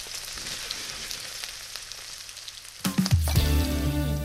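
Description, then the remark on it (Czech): Steady crackling sizzle of bacon and boiled dumplings (šišky) frying in a small pan, then a louder burst of hissing and clatter as the food is stirred or tossed, with a low humming tone underneath. “Já si takhle uprostřed si udělám trochu místa, abych je měl na dně pánvičky a opečuje.”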